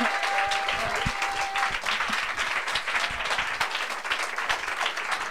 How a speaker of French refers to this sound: Et voilà, vous êtes tous très grands. Et on peut les applaudir aussi, tous ceux qui sont là.